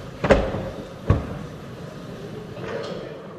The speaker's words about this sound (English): With five members absent, a call of the House was ordered and the chamber was locked down. Seeing 10 hands, call is in order. Dorman will secure the doors.